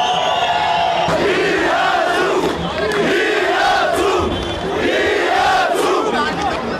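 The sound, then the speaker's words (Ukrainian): A large crowd of protesters in Yerevan, protesting on 23 June against a rise in electricity prices, chants the slogan "We are together" in unison. The loud rhythmic call repeats in regular phrases over a constant roar of many voices. “«Ми разом», – скандували протестовці.”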